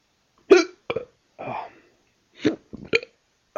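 A run of sharp hiccups, fairly loud, spaced irregularly over a few seconds with breathy gasps between them and no talking.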